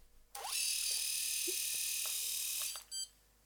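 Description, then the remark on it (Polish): An electric shaver, just released from its travel lock by pressing and holding the button, switches on and runs with a steady high-pitched buzz for about two seconds, then cuts off, followed by a brief short whir. “Ja oczywiście znowu dokonałem operacji odwrotnej, czyli nacisnąłem, przytrzymałem, odblokowała się ta blokada podróżna i golarka już jest w trybie normalnym.”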